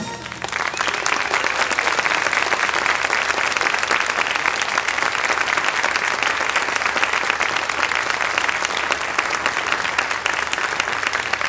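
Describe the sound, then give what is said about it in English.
Sustained applause from a church audience welcoming a guest preacher, a dense, steady wash of clapping that holds at an even loudness for over ten seconds with no speech over it. “I'm glad you clapped.”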